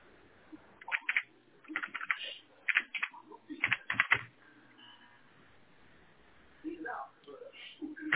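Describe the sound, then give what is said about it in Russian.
Quick clusters of computer keyboard key taps in short bursts over the first few seconds, thin in tone, as someone types the username "admin" in lowercase on a router login page, followed by quiet and then a voice talking near the end. “Попробуйте также с маленькой буквы ввести админ.”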